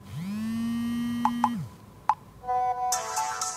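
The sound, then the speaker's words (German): A sequence of mobile phone sounds: a rising electronic hum, then a few short beeping blips, followed by a bright, chiming notification tone, all fairly clear with no one speaking. “Geräusche, die in den Schulen Bayerns nicht zu hören sein sollten. Denn dort gilt Handy aus und ab damit in die Tasche.”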